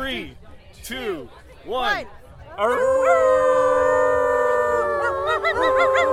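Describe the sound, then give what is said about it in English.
People imitate dogs, making puppy noises at a Pride event: a few short, rising yelps give way to a loud, sustained howl from several voices together, held for several seconds before breaking into yips. “Oh, now we've kicked off a howl in the whole place.”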